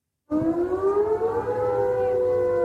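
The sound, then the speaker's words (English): An air raid siren wails steadily in the aftermath of the Ukrainian strike on the headquarters of Russia's Black Sea Fleet in occupied Crimea, its layered tones slowly rising in pitch after a sudden start, loud and sustained with a low rumble underneath and no voices. “Smoke could be seen and sirens heard in the footage of the aftermath of the attack posted online, which has been verified by the BBC.”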